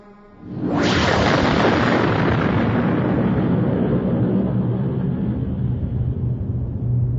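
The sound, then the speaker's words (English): A fireworks display over a city at night booms in the distance, beginning with a sudden blast that swells into a loud, continuous low rumble rolling on for several seconds, with no voices. “In the distance, one of the climactic fireworks displays was starting.”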